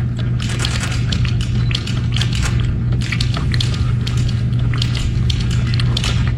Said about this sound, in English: It almost sounds like an old school typewriter. Gripping. If you were licking it. But in fact, it's a man spearing 241 kernels of corn in 3 minutes, setting a world record